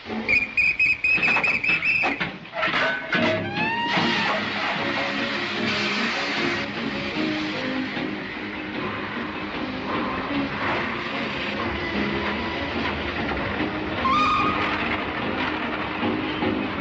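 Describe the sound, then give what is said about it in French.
A steam locomotive whistle shrieks loudly for about two seconds, then the steady rumble and rhythmic clatter of a running train carry on, with a brief, fainter whistle tone near the end. “Les avions, les 100 chevaux, ça ne me fait pas peur, mais je pense que rien ne vaut la machine à vapeur.”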